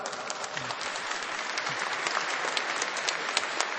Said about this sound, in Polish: zapraszamy Was na niezwykły koncert w wykonaniu księdza biskupa Antoniego Długosza i Waszym, a zatem dla wszystkich artystów gorące brawa.